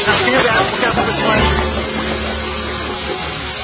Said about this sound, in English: your experiment is boiling over. Oh, he's eating right through the table. Oh, God, quick! Do something!